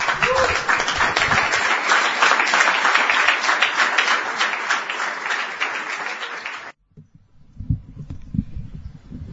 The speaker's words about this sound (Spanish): Y bueno, yo quiero que le demos un aplauso de bienvenida